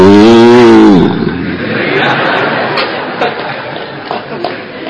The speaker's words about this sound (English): And their tails were raised straight up. Their udders were so full with prem, with milk. It was just pouring out of them. And they were mooing very loudly.